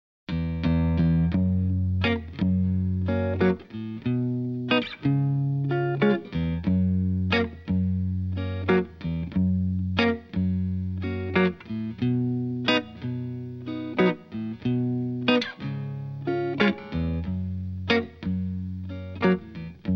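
A blues-rock song plays at a steady, loping tempo, led by a thick, effects-laden electric guitar with sustained chords and regular rhythmic accents, loud and close, with no singing heard.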